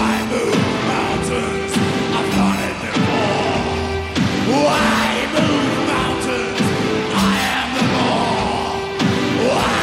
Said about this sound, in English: not dead, just screaming.